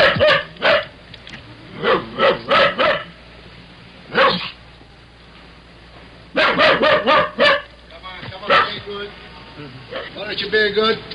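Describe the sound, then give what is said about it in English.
A dog locked in a car barks loudly and repeatedly in quick clusters of sharp barks with short pauses between bursts, while a doorman's voice speaks to it intermittently in the gaps. “And I listened to a doorman talking to a barking dog locked in a car.”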